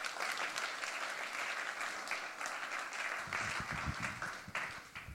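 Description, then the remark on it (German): Sustained audience applause for a 3D print, a dense wash of many hands clapping at steady loudness for several seconds, with a few deeper thumps and murmurs joining toward the end. “Applaus für den 3D-Print.”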